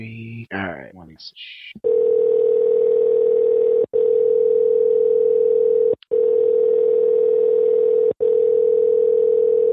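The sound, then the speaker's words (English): A quick flurry of electronic beeps, then a steady, loud telephone dial tone hums for several seconds, cut by three brief breaks, with no talking over it, as a person tries calling again. “All right, I'm going to try calling again.”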